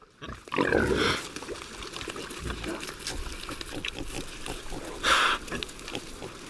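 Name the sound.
iberian pigs grunting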